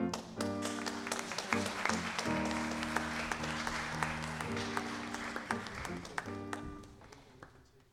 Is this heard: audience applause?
yes